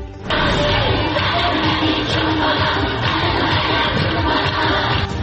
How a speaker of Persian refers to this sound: بچه های مدرسه و همخوانی ترانه های ممنوعه.